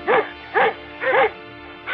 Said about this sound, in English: And sounds of Earth like a dog barking.